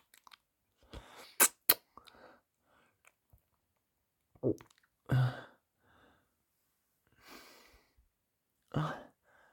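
Wet mouth noises of someone chewing and swallowing food, coming in irregular bursts with a few sharp clicks and quiet pauses between, no talking.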